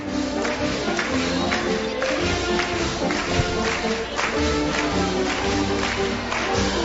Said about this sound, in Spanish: El público animadísimo, claro, animadísimo, como podemos escuchar, con palmas, que no para de acompañar esta polca, que poco a poco, como estamos escuchando, va aumentando en velocidad.